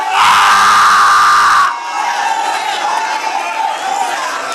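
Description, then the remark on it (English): A large church audience shouts and cheers in a loud, dense burst that drops after a second and a half to a sustained, softer roar of many voices. “Somebody ought to be shouting up in here.”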